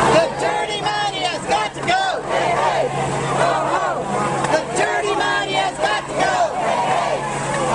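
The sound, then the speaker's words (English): A large crowd of liberal and good-government activists chants and shouts together at a protest rally outside a resort in Rancho Mirage, California, near Palm Springs, where a Koch brothers meeting convened; many overlapping voices rise and fall in steady rhythmic waves, loud and continuous throughout. “Now, word of that meeting's location leaked out, unusually, and various liberal groups and good government activists held a protest outside the resort.”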